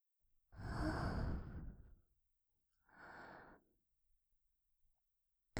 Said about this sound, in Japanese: ほら、吐息を吹きかけるたび体がピクピクしてる。